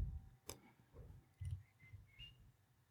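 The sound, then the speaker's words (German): A sharp, faint computer mouse click as a blog page is opened, followed by a few softer clicking sounds over a quiet, low background hum, with no one talking. “ich klicke hier mal eben meinen Blog auf, denn dort habe ich einen Countdown stehen.”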